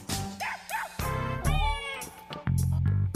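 A cat meows loudly and up close in a drawn-out, wavering call, set among a few short, sharp yelping animal cries, with no one talking.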